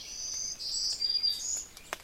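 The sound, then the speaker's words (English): A black-throated green warbler sings high, buzzy, wheezy zee-zoo, zee-zee-zoo notes that slide slightly in pitch, moderately faint, with no voices present. “That zee-zoo, zee-zee-zoo, black-throated green warbler.”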